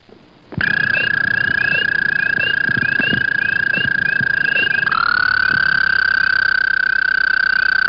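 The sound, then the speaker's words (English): A loud American toad, one of Ontario's amphibians, gives a long, steady musical trill that runs unbroken for several seconds, dropping slightly in pitch partway through, with no voices over it. “Okay, American toad.”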